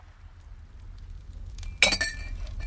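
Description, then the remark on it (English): Wine is poured into a glass in a conference hall: a single bright glassy clink as the bottle touches the rim, followed by a soft, faint trickle over a low rumbling background. “Inside the conference hall, Radon pours wine for Metz of the First Blood.”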